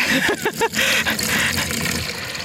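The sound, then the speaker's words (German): Water pours steadily into a mini pond container, with a burbling, gurgling start that settles into a continuous splashing stream lasting a couple of seconds. “Ich schwöre, das ist Wasser.”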